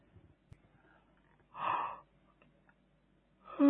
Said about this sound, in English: When we yawn like that, we're actually letting off tension, letting off stress and tension.